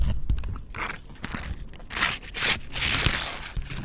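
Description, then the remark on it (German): Crinkling and scraping of a cherry Capri-Sun foil drink pouch as a paper straw is pushed through, with crunchy crackles and a few sharp pops, no talking. “Entschuldigung, das ist eine Capri-Sonne, falls ihr es gerade gehört habt.”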